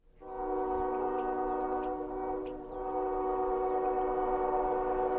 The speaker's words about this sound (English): The blare of the coal trains as they head west through Paonia signals the beginning of a very long journey. From here, the trains that serve the valley's three coal mines head across the Rocky Mountains to their final destination